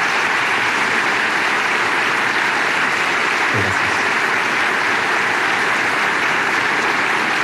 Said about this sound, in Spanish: Y por eso quiero pedirle a todos un gran aplauso para las distintas instituciones que dirigen nuestra nación.